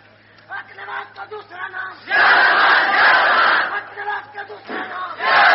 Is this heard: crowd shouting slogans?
yes